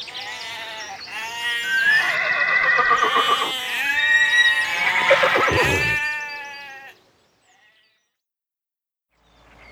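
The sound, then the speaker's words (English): A horse on a farm whinnies loudly, a long quavering neigh with wavering pitch that carries on for several seconds before stopping abruptly into silence. “And I can see horses.”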